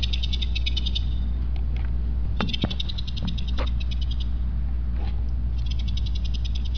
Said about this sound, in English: Anybody hear that? So this is this train of sound. So this is the southern pine beetle male communicating with the female.